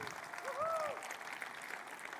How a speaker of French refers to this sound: Alors vous applaudissez pas ce matin. Alors, voulez-vous applaudir les concerts gratuits à l'Église Nouvelle Vie?